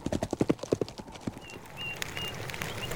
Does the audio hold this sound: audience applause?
no